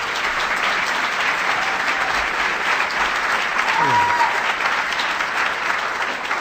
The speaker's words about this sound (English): And on behalf of the United States Hispanic Chamber of Commerce, I want to welcome you to our 19th annual legislative conference. So give yourselves a big, big round of applause.